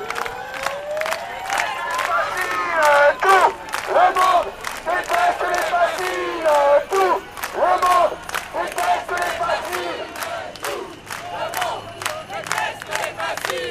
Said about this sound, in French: Et là, on entend du bruit et des applaudissements. C'est que je crois que le convoi de l'eau est en train d'arriver. Là. Oui, oui, oui, c'est le convoi qui arrive pour nous soutenir.